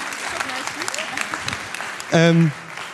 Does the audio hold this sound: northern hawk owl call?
no